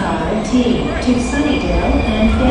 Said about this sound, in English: And here comes the T3rd Muni Metro, all aboard for Mission Bay and Chase Center.